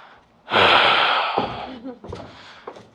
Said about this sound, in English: What's up with the breathing?